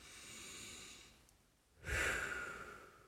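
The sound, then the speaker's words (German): A deep breath during a breathing exercise, upper body held upright with hands on the lower side ribs: a soft, drawn-out inhale as deep as possible, a brief pause, then a louder, rushing exhale, with no talking. “Okay, und jetzt nehmt ihr den Oberkörper hoch, streckt euch sozusagen auf, Oberkörper, Unterkörper, eine Linie, ihr habt Platz, ihr fasst euch an die seitlichen Rippenbögen unten und atmet jetzt nochmal so tief ein, wie ihr könnt.”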